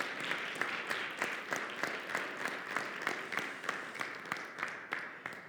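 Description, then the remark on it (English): Sustained applause from an audience, a dense wash of many hands clapping with sharper individual claps popping out at a steady pace, holding fairly even in loudness throughout. “We are applauding your courage, friend, not only to do that, but to sit here today and watch yourself on video, because that's terrifying, right?”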